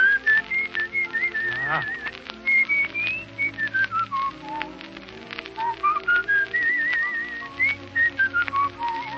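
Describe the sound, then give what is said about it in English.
Someone whistles a lively melody for several seconds, the bright wavering notes rising and falling over a busy background of clicks and soft accompaniment. “Make with the whistle.”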